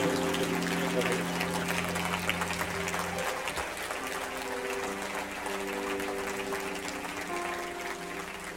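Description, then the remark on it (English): A large crowd claps steadily and continuously, a dense wash of hand claps, with sustained low tones and murmuring voices underneath. “Oh, let's keep clapping. We got more people now.”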